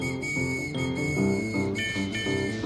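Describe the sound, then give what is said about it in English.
A trolley's new whistle sounds brightly and steadily in a few clear high tones, stepping up in pitch partway through, over soft background music with no talking. “I'm anxious to see the trolley today because it has its new whistle.”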